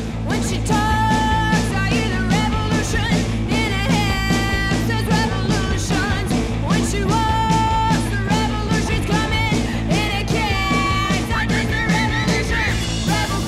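A rock band plays loud and steady throughout, with dense driving guitars and drums and a melodic lead line rising above the full, unbroken wall of sound.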